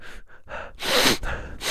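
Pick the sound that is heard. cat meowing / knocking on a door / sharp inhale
sharp inhale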